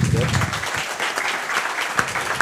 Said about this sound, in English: First up, a round of applause for the GAA correspondent with the Irish Sun,